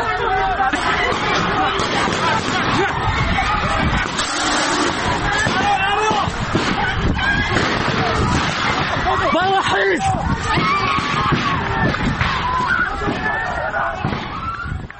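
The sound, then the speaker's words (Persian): A chaotic crowd uproar during a special forces raid on a student gathering inside Kurdistan University of Medical Sciences on 7 Aban, with tear gas and shooting reported. Many voices shout and scream over one another at a steady, loud level throughout, with occasional sharp bursts of noise cutting through the din. “صدایی داریم که بشنویم با هم. حمله نیروهای یگان ویژه به داخل دانشگاه علوم پزشکی کردستان 7 آبان ماه.”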